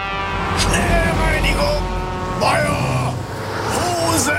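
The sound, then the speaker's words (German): Heavy trucks driven one after another rumble past, a steady low engine drone with rising and falling tones, while the truck drivers shout over the traffic noise. “Also heuern Sie ein paar weitere LKW-Fahrer an, die dann nach einer Woche üben, dem Timo hintereinander entgegenfahren”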